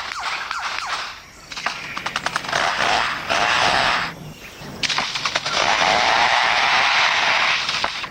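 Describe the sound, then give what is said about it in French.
A lyrebird mimics a chainsaw, with rapid rattling bursts followed by long, loud buzzing roars that stop briefly and start again, with no talking. “Alors, vous avez entendu, c'est une tronçonneuse qu'on entend.”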